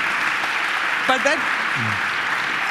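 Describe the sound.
An audience applauds steadily throughout, a dense, even wash of clapping. A brief voice cuts through the middle, with a short low vocal sound just after.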